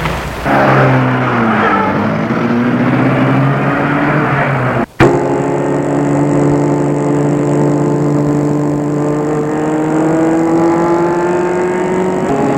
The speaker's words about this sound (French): Il l'amène à sa voiture qui est sur le parking. Elle entre dedans, un peu triste. Ému, et le chauffeur met la voiture en route.